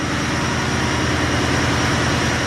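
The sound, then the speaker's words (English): Large engines in Yakutat's new power plant in Alaska run in a loud, steady roar, with a deep, rapid low-pitched throb beneath a dense wash of mechanical noise that never lets up. No one speaks. “Scott Newland opens the door to Yakutat's new power plant.”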